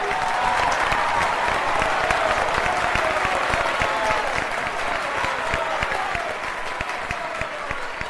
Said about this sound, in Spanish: Cuando Amelita termina el aria, el público aplaude y grita desaforado. Se vuelven locos por ella.